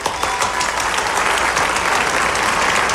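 A crowd applauds the narrator of a told children's story, a dense, continuous wash of many hands clapping at once, fairly loud, holding at an even level throughout with no voices on top.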